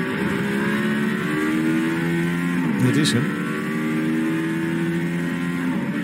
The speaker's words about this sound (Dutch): Het klinkt een beetje als een Formule 1 auto op de PlayStation. Ja, het is ook een beetje sound synthesizer. Wel grappig, je hoort hem ook even wheelspin. Dat hij toch, weet je, we zitten al in de vierde of vijfde versnelling.